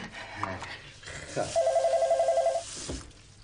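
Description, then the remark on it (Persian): A telephone rings once: a single burst of rapid, trilling electronic pulses lasting about a second, fairly loud, over a noisy background with faint movement. “تلفن؟ اصلا شما کاری نداشته باشید. به تلفن چی کار دادید؟”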